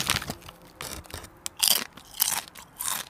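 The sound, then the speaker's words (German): Crunchy Schoko-Crossis chocolate cereal bites from a freshly opened bag being chewed, a run of crisp, bright crackling crunches in uneven bursts, several louder chomps standing out, with no talking. “Das sind die Crossis. Geil. Die Crossis von... Schoko-Crossis, meinst du?”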